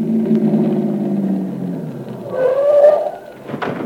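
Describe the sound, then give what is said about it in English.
Late at night with no traffic, a car engine rumbles low and winds down as the vehicle, its lights killed, pulls in behind a parked car and slows to a stop, followed by a brief higher whine and a sharp click. No one speaks. “Car parked up ahead. Kill the lights and get in behind.”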